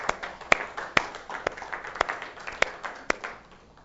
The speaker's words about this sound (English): We want to acknowledge you, but we also want to applaud you. So can we applaud you right now, you mothers? I don't want anybody staying seated, mothers of all ages.